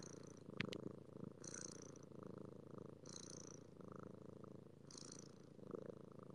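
A cat that has fallen asleep on a person's shoulder purrs steadily right beside them, a continuous low rumbling drone with a faint breathy hiss recurring roughly every one and a half seconds as it inhales and exhales; no one speaks.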